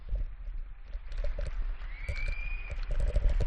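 Scattered applause from many people rings out at a distance, steady clapping echoing across an open neighbourhood, with a brief whistle rising over it midway.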